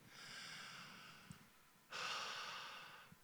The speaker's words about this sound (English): Everyone together right now, take a deep breath.